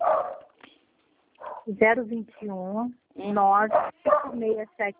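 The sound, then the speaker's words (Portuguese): A dog barks and yelps in several loud bursts over a few seconds, its cries rising and falling in pitch, with a voice heard alongside. “Nossa, meu cachorro, meu Deus.”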